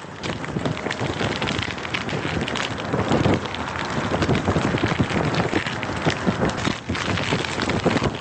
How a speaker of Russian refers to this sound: Обычно звукооформители не раскрывают своих секретов, но есть такие простые вещи, как, скажем, звук огня, который имитируется при помощи старого веника и носового платка.